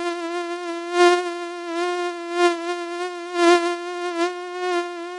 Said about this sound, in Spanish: Hola niños, en este episodio vamos a conocer un poco más sobre un insecto que a veces nos asusta, pero que tiene un papel importante en la naturaleza, el mosquito.